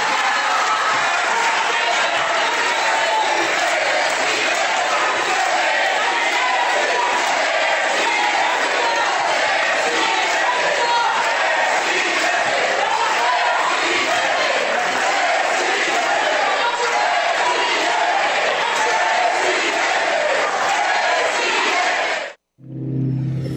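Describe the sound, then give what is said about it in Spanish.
A large crowd cheers and applauds steadily, a dense roar of clapping and shouting voices holding at the same loud level throughout before cutting off abruptly at the end, after a speech by Enrique Alfaro, governor of Jalisco; the applauders are people paid by his government. “Por si había dudas de las aspiraciones políticas, las aspiraciones presidenciales que tiene Enrique Alfaro, pues este escenario que se le montó de aplaudidores, de gente que gana un sueldo justamente en este gobierno”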